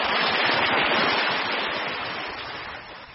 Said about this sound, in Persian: صدای خروشان آب دریای پنشیر را شنیدید.